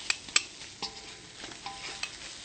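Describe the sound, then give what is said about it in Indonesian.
Ingredients, including torch ginger flower, sizzle steadily as they fry in a hot pan while a utensil stirs and scrapes, with a couple of sharp clinks near the start. No one speaks. “Ya, goreng terus. Diaduk sebentar.”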